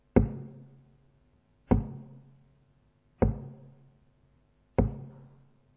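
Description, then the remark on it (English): Four slow, heavy knocks on a door, evenly spaced about a second and a half apart, each booming and ringing out with a hollow, resonant decay. No voices. “You know where He is? He's at your door. Do you know what He's doing? He's knocking.”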